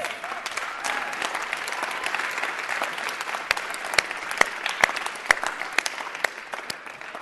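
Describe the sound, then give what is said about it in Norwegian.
Steady applause from a sizable audience at a Christian gathering, given after a closing prayer, a dense patter of many hands clapping, with a few sharper, louder claps standing out near the end as it begins to thin. “Den siste, dere kan få lov til å klappe.”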